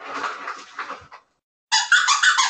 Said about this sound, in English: Now she was gonna play with the squeaky toy, and that toy squeaks. Do you want to hear it just for shits and giggles?